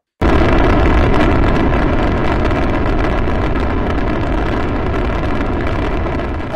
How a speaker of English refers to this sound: Sounds like a rocket. … says rocket.